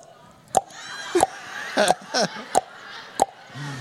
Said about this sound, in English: Like a fucking gigantic dripping faucet. Okay, that's what I hear every time I pass the pickleball.